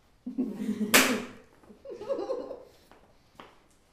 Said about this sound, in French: En avant. Double claque.